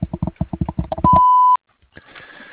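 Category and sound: signal or alarm, voicemail beep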